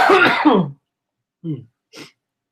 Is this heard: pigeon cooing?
no